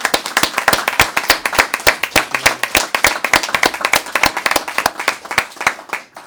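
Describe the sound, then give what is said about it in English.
A small crowd of members of the public at a meeting applauds the vice chairman with brisk, sharp hand claps, fairly loud and steady for several seconds before thinning out at the end. No one speaks over it. “Members of the public who would like to unanimously applaud our vice chairman, please join us.”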